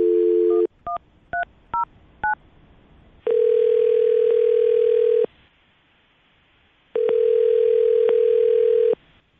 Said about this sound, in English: Okay, well, I'm going to dial the phone number right now.